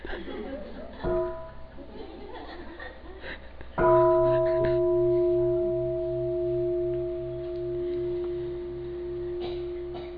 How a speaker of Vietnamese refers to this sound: Ê, nãy giờ sư phụ chờ con thỉnh tiếng chuông đó.